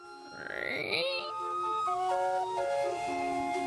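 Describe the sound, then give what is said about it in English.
Steam calliope music from a sternwheeler called the Gordon C. Green, steaming on a river in fog at night: a shrill whistle swoops upward, then a slow tune of sustained, reedy piping notes steps up and down, steady and fairly loud, with no voices. “Why is it steaming in the fog at night playing a calliope?”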